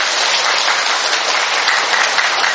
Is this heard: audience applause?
yes